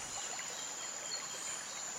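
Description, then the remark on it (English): A soft, steady wash of the Pahang River gently flowing in the sun, low and continuous, with a thin high insect-like whine running over it and no voices. “And of course, right in front of us, the Pahang River. Its waters glistening in the sun. A stream of water gently flowing.”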